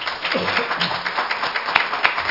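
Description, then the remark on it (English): An audience applauds together, giving the Lord a hand clap of praise at a church service, a dense wash of many hands clapping at once with a few sharper claps standing out, some voices mixed faintly underneath. “Let's give the Lord a hand clap for praise.”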